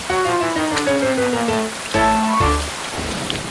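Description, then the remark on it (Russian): Heavy rain pours down in a steady, dense hiss, while a low droning tone slides slowly downward above it, breaks off briefly, then returns before the sound eases. “Льет как из ведра.”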